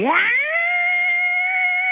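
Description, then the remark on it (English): A person vocally imitates a car's noise after startup: a quick upward-sliding whine that settles into a loud, steady, high-pitched hum held unbroken for about two seconds, with no talking. “My problem or my concern is occasionally when I first turn the car on, I turn it on, starts right up, and then it makes this noise, which I'm going to make for you.”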